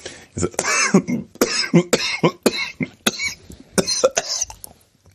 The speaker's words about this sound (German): Oh Gott, Hilfe. Dabei habe ich eigentlich gedacht, dass diese Hustenanfälle vorbei sind.